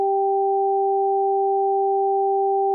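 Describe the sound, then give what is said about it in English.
Two pure electronic tones, one high and one low, alternate in a quick, even rhythm about four times a second, steady and fairly loud, with no voices; they are played over headphones. “The high tones remained in my right ear and the low tones remained in my left ear.”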